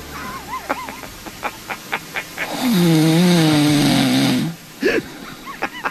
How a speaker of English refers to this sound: That's a real live Michael Felger snore. Oh, that's Felger snoring.